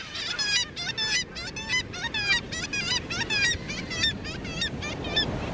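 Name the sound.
black-legged kittiwake calls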